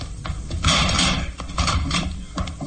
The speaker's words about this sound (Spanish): Y no se desespera más. Retrocede un poco y se lanza contra la puerta.